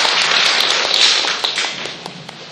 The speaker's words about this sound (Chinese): 各位请坐，谢谢主，我们一把掌声献给我们的主，好吗？谢谢，感谢。